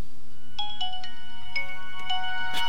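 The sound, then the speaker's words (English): A tinny electronic startup jingle plays from the small speaker of an old mobile phone as it loads, a quick sequence of bright tonal notes with sharp onsets, fairly loud, over a faint steady hum. “This speaker's a bit tinny.”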